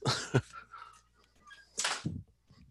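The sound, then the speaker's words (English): A door is pushed shut with a short, sharp thump, preceded by a quick knock of handling noise and followed by faint shuffling. “excuse me one second, I gotta close my door.”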